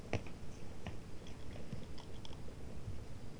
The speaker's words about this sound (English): Are you eating ripe olives? Ripe olives?